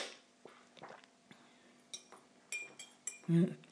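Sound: slurping coffee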